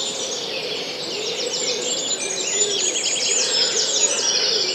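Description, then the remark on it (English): In a wood, a blackcap warbles in rapid, bright phrases that run continuously, while a wood pigeon's soft, low cooing hums steadily beneath it. No voices are heard. “Now the wood is dominated by blackcap singing away and wood pigeon.”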